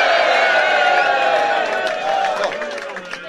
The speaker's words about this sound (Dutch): Geeft er ook een geweldig applaus,